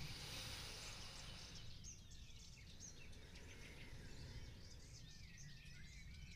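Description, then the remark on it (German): Birds chirp and twitter over a steady outdoor hiss, with faint high calls scattered throughout and no one speaking. “Hör vielleicht das Vogelzwitschern, was ich hier höre.”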